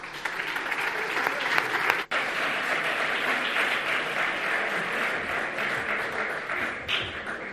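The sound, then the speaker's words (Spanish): Sustained applause from a large indoor audience at a COPE award ceremony as the innovation-category prize goes to Evolutio, a dense steady wash of clapping that holds for several seconds with a brief break partway through, then continues. “Un fuerte aplauso.”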